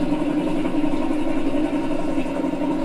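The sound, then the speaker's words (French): A few-cylinder Baudouin DK3 diesel engine idles steadily, its low, rhythmic popping thrum continuous throughout, with no voices over it. “C'était un DK3. Alors lui, c'était spécial. Hein. Pop, pop, pop, pop, c'est le nombre.”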